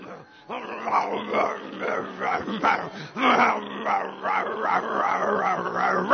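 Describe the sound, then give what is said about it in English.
Someone mimics the yelps of a limping dog with a broken leg as it takes steps, a continuous run of whiny, rising-and-falling cries repeated over several seconds with no spoken words. “And every time he takes a step, he goes...”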